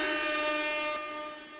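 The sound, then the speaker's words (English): A loud, blaring air horn holds one steady, brassy tone for about a second and a half, then tapers off slightly at the end. No one speaks over it. “I feel like you get honorary air horn.”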